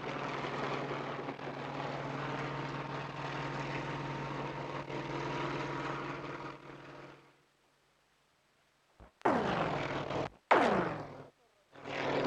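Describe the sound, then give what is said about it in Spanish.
A helicopter with an angel hanging from it by straps passes overhead, its rotors roaring loudly and steadily with a deep engine drone for about seven seconds and blowing dead leaves, then cut off, followed by silence and a few short, sharp bursts of noise. “Estos rotores, cuyo ruido me han hecho interrumpir la descripción de la operación, hacen volar hojas muertas, hacen desprenderse incluso tejas de los tejados vecinos.”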